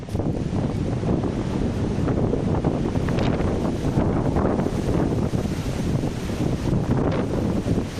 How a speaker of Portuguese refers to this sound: Así sopraba o vento esta mañá aquí en Lugo.